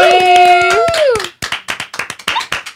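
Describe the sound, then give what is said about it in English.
Quick, steady hand clapping welcoming guest Alexia Umansky, first under a loud sustained tonal whoop that slides downward, then continuing on its own in a brisk, even rhythm of sharp claps. “You're welcome, clap. You're welcome, applause.”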